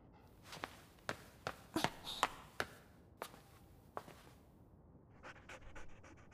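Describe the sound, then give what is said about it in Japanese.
A dog pants in quick, rhythmic breaths that speed up toward the end, mixed with scattered soft taps like footsteps, fairly quiet, with no talking. “あの犬さんどこ。”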